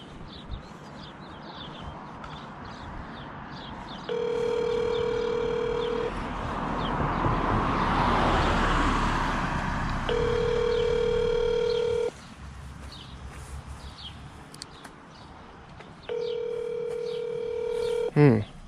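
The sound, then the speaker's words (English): A phone call to Clark Power, made from Wood Avenue, rings out unanswered: three steady ringback tones, each about two seconds long, spaced by long pauses, over a constant background hiss of outdoor noise. “They're not answering their phone.”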